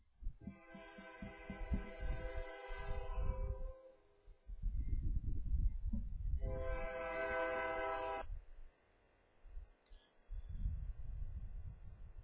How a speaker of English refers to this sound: We'll pause for that train.